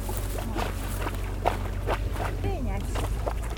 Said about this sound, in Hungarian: Egy halastó. Ja, tehát akkor... És a halastóból, ahogy átjön a csatornába a víz, egy ilyen biztonsági szerepel, ott bugyog a víz ilyen érdekesen.